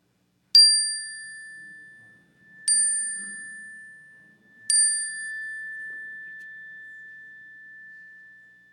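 chime ringing

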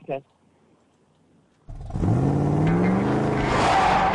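pickup truck engine revving

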